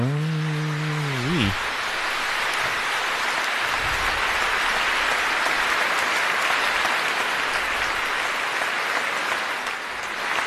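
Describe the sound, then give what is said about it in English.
A large crowd bursts into loud, sustained applause that stays dense and steady for the whole stretch, with a brief tonal vocal sound at the very start. “Dramatic applause.”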